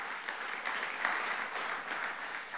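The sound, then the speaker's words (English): An audience clapping hands in praise and appreciation of Emmanuel, God with us, a dense, steady wash of applause from many people that holds evenly throughout, moderately loud, with no talking. “Give him a hand clap of praise and appreciation.”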